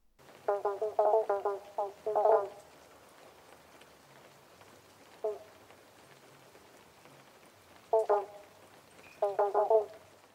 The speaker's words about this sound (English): Could you hear the eastern banjo or pobblebonk frog in that recording? They have this really distinct call that sounds like a plucking of an instrument, plucking of a banjo, which is exactly where this species gets its name.